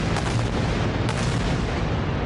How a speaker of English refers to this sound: The sounds of heavy bombardment across the coastal enclave roared through the night.